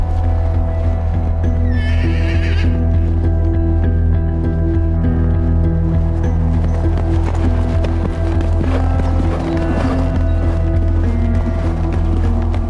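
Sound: horse neighing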